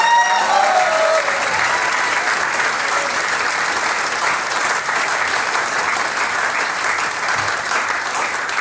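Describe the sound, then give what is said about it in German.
An audience claps steadily and loudly throughout for the band, a band of 38 years, a dense, even wash of applause with a few brief whistled or cheering tones near the start. “Applaus 38 Jahre und kein bisschen leise, die …, Dankeschön Burschen.”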